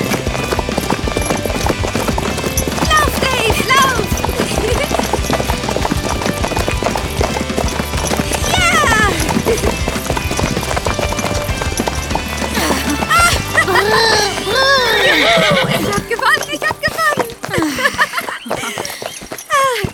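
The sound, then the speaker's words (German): Hooves clip-clop at a running pace as horses gallop in a race, steady, with a horse neighing now and then over a busy mix of layered sound and voices. “Unser erstes Rennen und schon gewinne ich. Ganz ohne Training.”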